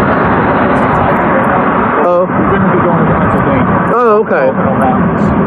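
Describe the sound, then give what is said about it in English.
A loud, steady roar of road traffic fills the whole recording without letting up, with a couple of short bursts of a person talking over it. “So we're, okay, I'm having a hard time hearing you because of the traffic.”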